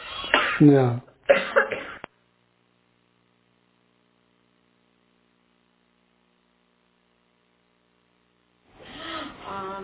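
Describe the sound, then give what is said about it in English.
Two coughing bursts come at the start, fairly loud, followed by a long stretch of silence before a voice starts up again at the end. “Just had a cough.”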